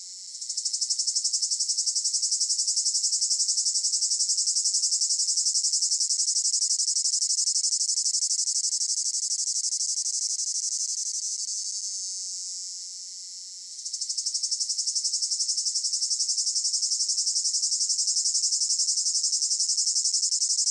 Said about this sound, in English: There are actually over 2,500 species of cicadas globally. The males of most of those species and the females of some of them have timbal abdominal organs that produce the well-known cicada sound.